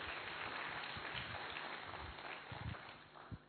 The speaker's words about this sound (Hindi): एक बार पुनः जोरदार तालियां इन बच्चियों के लिए।